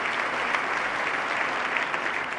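A crowd claps steadily, the dense patter of many hands forming a continuous, even wash of applause that holds at a strong level throughout without fading, with no voices rising above it.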